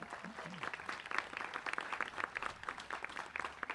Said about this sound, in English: Could we have a round of applause for them?